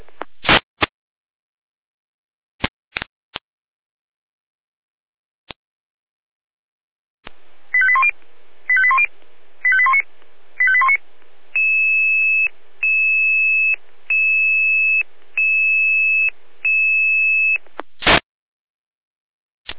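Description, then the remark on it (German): Radio alerting tones for a fire brigade dispatch to Ottendorf-Lippersdorf over trees on the roadway, at 11:59: a few sharp clicks, then a series of rapid chirping tone bursts followed by evenly spaced steady beeps over radio static, ending abruptly. “mit Alarmierung.”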